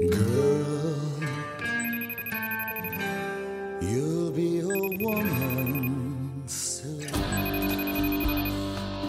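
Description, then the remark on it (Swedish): A melodic phone ringtone plays loudly, its bright electronic chime pattern repeating in three cycles over about nine seconds, with no one speaking, as a call is placed back to someone. “Vänta, jag ringer upp dig.”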